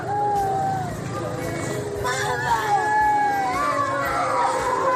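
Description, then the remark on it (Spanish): Children wail and cry in high, wavering voices over a dense, continuous crowd commotion of shouting and babble, with several anguished cries overlapping throughout, just after a vehicle fatally ran over an Indigenous woman and her daughter. “Bueno, en las imágenes pues aparecen niños llorando, incluso abrazando a los cadáveres.”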